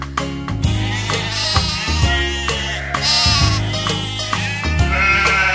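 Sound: sheep bleating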